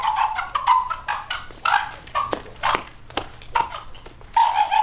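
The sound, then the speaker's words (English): A large elephant seal weighing hundreds of pounds, in a pen at an animal rehabilitation site in LA County as a volunteer enters carrying a board for protection, vocalizes in a rapid series of short, clucking, chicken-like squawks, mid-pitched and fairly loud, interspersed with sharp clicks and snaps, with no talking. “In a larger pen next door, a volunteer enters, carrying a board for protection from a large elephant seal, which sounds more like a chicken than an animal weighing hundreds of pounds.”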